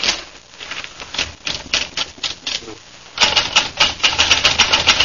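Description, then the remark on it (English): A typewriter clatters with a rapid, steady rhythm of sharp key strikes, fairly loud, growing busier and louder about halfway through. “Now give me a typewriter and I'll go to work.”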